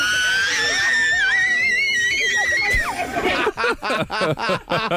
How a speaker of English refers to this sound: Like, this is also a noise. Right, so that's a steam kettle that you would have, and then this is the kid.